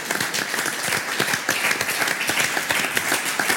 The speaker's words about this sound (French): Eh bien, merci beaucoup. Merci, applaudissements.